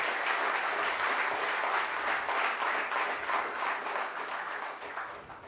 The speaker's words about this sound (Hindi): तो एक बार मैं सभी से अनुरोध करता हूं कि जो हमारे डिग्निटरीज बैठे हुए हैं, महान भाव बैठे हैं, उनके लिए जोरदार तालियां हो जाए।